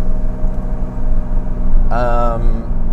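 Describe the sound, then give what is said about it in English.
A car window motor gives a short, rising electric whine as the windows of a car called Dorian Gray are rolled up while driving on a gorgeous 66°F day, over the steady low rumble of the car interior. It is moderately loud, lasting about half a second before stopping. “I'll just roll the windows up for you.”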